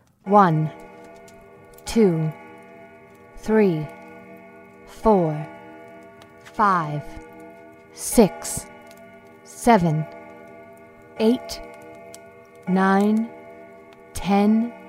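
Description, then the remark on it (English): A voice imitates a grandfather clock in a home chiming, sounding twelve slow, evenly spaced 'bong' tones, each gliding down in pitch, fairly loud. “Right as their eyes finally closed, the grandfather clock in their home began to chime.”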